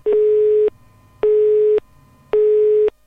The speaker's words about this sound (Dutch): Laat je biecht achter na de pieptoon en sluit af met een hekje.